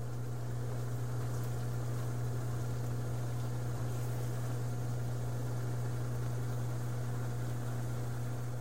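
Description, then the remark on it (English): A marinade of soy sauce, rice wine vinegar, spices and gochujang bubbles and sizzles steadily as it reduces and thickens into a sauce in a pan, a soft continuous crackle over a constant low droning hum, with no talking. “That marinade, as you can hear, is bubbling away.”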